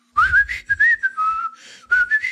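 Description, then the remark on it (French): A person whistles a short, breezy tune, a few quick rising and falling notes in a carefree, nonchalant manner, imitating someone acting innocent. “Puis là, il fait comme le gars qui a rien entendu. C'est à peine s'il siffle pas, là.”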